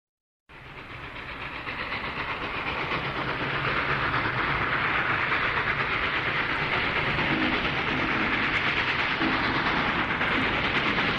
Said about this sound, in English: Watch that train, folks.